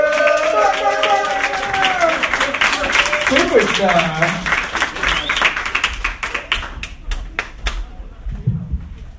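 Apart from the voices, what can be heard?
audience applause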